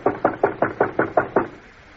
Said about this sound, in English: Fine. Let's bang on the door.